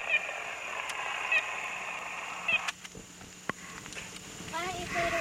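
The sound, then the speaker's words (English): A red-bellied woodpecker calls in response to a red-bellied woodpecker recording played on tape, a short series of rolling, trilled notes, with a few sharp clicks and knocks scattered through a steady background hiss. “Yeah, we played for, there's the red belly responding to the red belly on the tape.”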